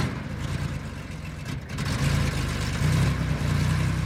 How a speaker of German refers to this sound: Konnten Sie das erkennen? Ja, da haben wir es mit einem soliden Verbrennungsmotor zu tun, würde ich mal sagen. Tippen Sie auf eine Marke? Nein, sagen Sie es mir. Ein Porsche 911 ST.